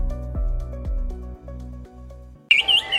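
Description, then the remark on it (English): Low, steady tones fade out, then a wood thrush's clear, flutelike song breaks in loudly, a rapid bright warbling phrase at the very end. “Do you hear that? It's a wood thrush.”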